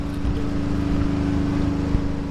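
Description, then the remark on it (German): A power generator hums loudly and steadily in the yard of a former car workshop in Izium, Ukraine, its engine drone holding a constant low pitch with a strong tonal hum and rumbling harmonics throughout, with no speech. “Im Hof einer ehemaligen Autowerkstatt brummt laut ein Stromgenerator.”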